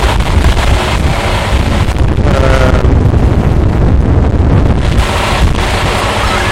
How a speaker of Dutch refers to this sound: Nou, en het waait, zoals je hoort.